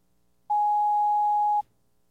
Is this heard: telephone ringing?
yes